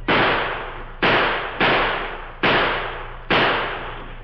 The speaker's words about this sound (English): The Lone Ranger's plan had created an effective diversion. The outlaw Indians halted and returned the gunfire that came from the little house at the edge of the Pawnee Reservation.